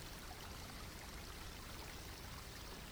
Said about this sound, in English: Notice that in the middle of the stream, there are large, smooth stones that are a perfect fit for your body to lie on, submerging just enough to be safely covered by the gentle current of the water.